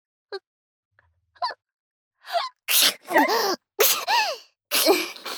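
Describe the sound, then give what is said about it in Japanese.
A few short sharp inhales, then a rapid run of loud sneezes, five or six forceful voiced bursts tumbling one after another with barely a pause between them. “私も薬飲んでないからくしゃみ出そう。”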